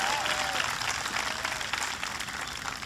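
A large crowd applauds for Lieutenant Governor John Cherry with dense, steady clapping that holds at an even, fairly loud level for the whole three seconds, with a thin whistle-like tone briefly audible at the start.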